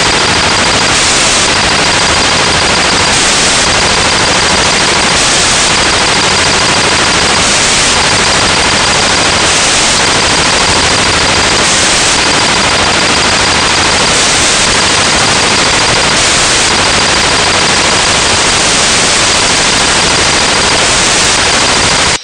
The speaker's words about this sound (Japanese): ここすげえマシンガン撃ちよ、俺の。もう、ずーっと撃ちよ。